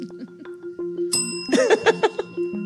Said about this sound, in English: What can soybeans be used for? Ring your bell.